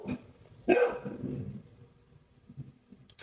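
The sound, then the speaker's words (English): A dog lets out one loud bark with a rough, drawn-out tail, followed by quiet low rumbling and a faint background. No one speaks. “Pardon that commercial break. We should have a dog.”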